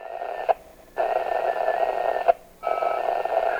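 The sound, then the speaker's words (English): A Barnstable County shortwave (ham) radio data transmission used by officials to stay in touch: harsh, buzzing digital tones come in two long bursts, each set off by a sharp click and separated by brief near-silent gaps, sounding much like a 1990s dial-up modem. “It sounds a lot like a 1990s-era dial-up internet tone, but this system doesn't operate on a fiber network or even an old-fashioned phone line.”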